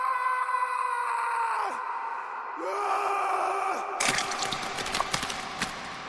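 A male inmate lets out a loud, drawn-out agonized scream in several strained bursts that drop in pitch, ending in a harsh, ragged, breaking cry as his throat tears, with no other voices.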